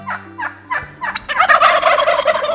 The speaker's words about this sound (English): Take a close look at a male wild turkey, if you dare. This turkey is a hefty 4 feet of bird, tail tip to beak. Its handsome, dark, and densely feathered body is topped by a bare neck.